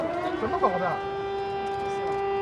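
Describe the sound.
A steady, sustained siren wail in Chengdu, China, holds a constant tone throughout, sounding during three minutes of silence to remember victims of an earthquake, with a brief burst of overlapping voices early on fading beneath it.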